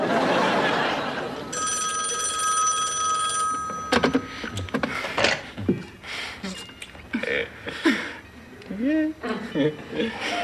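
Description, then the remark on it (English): A telephone rings with a steady, bright electronic trill for a couple of seconds, then gives way to voices talking and laughing. “Aren't you gonna answer the phone? Is that the phone?”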